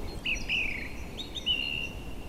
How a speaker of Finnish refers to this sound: Tuon laulurastaan kuusen vieressä näen tuon linnun. Noin 50 metrin päässä laulaa tämän kevätvaiheen huhtikuun jälkipuoliskon upeimpia solisteja.